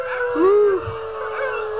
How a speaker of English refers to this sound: Okay, yes, I can hear the coyotes beginning to call.